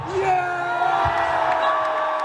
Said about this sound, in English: And the contest against India's arch rival, Pakistan, was every bit as dramatic and dramatically followed as one would have expected. The crowd was enormous, exceptionally partisan, and exceptionally loud and enthusiastic.